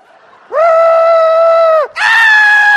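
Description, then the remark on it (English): A single voice lets out two loud, sustained screams, the first long and steady, the second higher-pitched after a brief gasp, mimicking people shrieking in panic. “They're starting to scream.”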